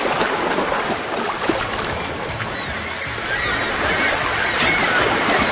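Oars splash and churn through water in a steady, continuous wash, fairly loud, with no voices, just the rolling noise of a small rowing boat moving from a ship to the shore.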